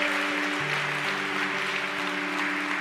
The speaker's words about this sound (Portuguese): Que aplaudir, aplauda o Senhor.